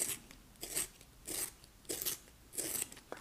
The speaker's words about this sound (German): Dann habe ich hier vor mir, sehe ich gerade noch 2 Bleistifte, die ich gerne behalten möchte. Die spitze ich auch noch kurz an.